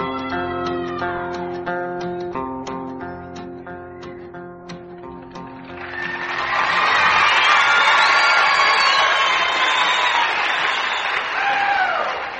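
Closing notes of live music ring out, then a large concert audience at the Opry in the Ryman Auditorium bursts into loud, sustained applause and cheering, with whistles and whoops rising above the clapping until the end.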